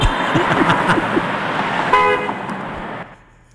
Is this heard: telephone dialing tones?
no